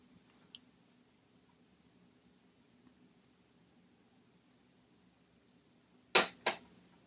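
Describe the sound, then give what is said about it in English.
Brief sipping of cold coffee from a cup near the end: two quick slurps in a row, after several seconds of near-silence with a faint low hum and one small tick. “I'm sipping a little cold coffee to try to battle this throat of mine.”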